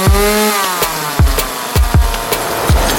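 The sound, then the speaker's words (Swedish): A saw sound effect: a steady, loud motorized whine holding a pitch that drops slightly, with repeated sharp thuds and bursts of noise cutting through at irregular intervals. No one speaks. “Ska vi dra fram en såg här kanske?”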